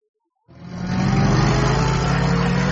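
old car engine running

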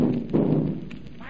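cannon firing a salute

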